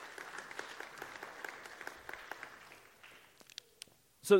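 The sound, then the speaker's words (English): Audience applause for three men invited up to help the speaker illustrate a point, with rapid, overlapping claps that taper off after about three seconds, followed by a few scattered sounds and a short loud burst at the end. “Can we give them a hand clap real quick?”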